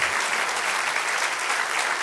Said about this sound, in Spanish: Dale aplauso al Señor.